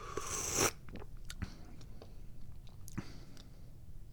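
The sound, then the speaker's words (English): An airy slurp of hot tea lasting under a second as a person tastes it, followed by quiet mouth clicks and a soft swallow in near silence. “Can't take it anymore. Got to take a sip.”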